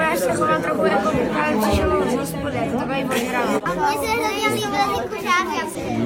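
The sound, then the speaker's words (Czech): Many children, the intended audience, chatter and call out at once at a public dress rehearsal of a children's theatre performance, a dense, lively babble of young voices that stays steady and fairly loud throughout. “Veřejnou generálku si užili ti nejpřísnější kritici, děti, pro které je představení určené.”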